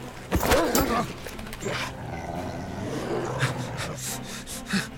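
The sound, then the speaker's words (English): A wolf snarls and growls, a loud burst of vicious noise at first that settles into rough, continuous rumbling, with a few sharp huffs near the end. “The wolf leaps side to side, evading the flurry of blows.”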